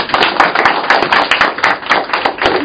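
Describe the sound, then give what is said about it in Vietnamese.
A crowd applauds steadily to thank a man, many hands clapping in a dense, continuous patter that stays fairly loud and even throughout, with no voices heard. “Vâng, chúng ta cho một tràng pháo tay để cảm ơn anh.”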